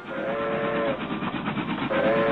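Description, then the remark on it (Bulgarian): The first whistles of a steam locomotive on the new Bulgarian railway shriek in two blasts, a long one and then another starting near the end, over the steady, loud rumble and clatter of wheels rolling on rails. “Дядо Йоцо чу с трепет първите писъци на свирката на паровоза, трещенето на колелата по релсите.”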